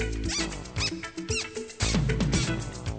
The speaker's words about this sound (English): My shoes started to squeak.